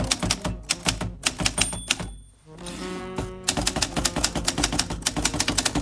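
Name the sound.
typing on a typewriter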